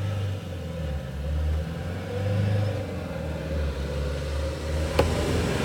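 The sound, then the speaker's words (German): A car rumbles past outside a van the speakers are travelling in, its low engine drone swelling and holding steady for several seconds before a brief click near the end, with no one talking. “Da kann das schon mal vorkommen, dass hier auch ein Auto vorbeifährt.”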